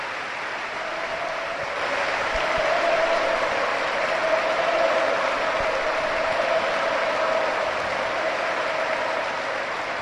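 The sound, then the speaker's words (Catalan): A sustained ovation of dense, steady clapping from Alfonso Pedraza's teammates at a UEFA Europa League celebration fills the whole ten seconds, rising slightly after the first couple of seconds and holding at a loud, even level with a faint crowd hum underneath. “Amb la camiseta, tirant-se la mà al cor, a missa, UEFA Europa League, i la ovació dels seus companys, eh?”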